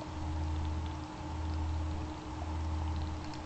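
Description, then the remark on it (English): Steady watery patter of simulated rain, with scattered small drips over a continuous low rumbling wash, even in loudness throughout, with no voices. “So let's start with the rain.”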